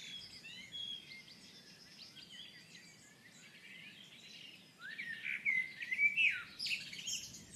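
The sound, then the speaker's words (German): A blackbird sings a long, flowing, warbled song, fairly soft at first, then growing louder and busier near the end, over a faint low background hum. “Und die Amsel singt jetzt sehr lang eigentlich.”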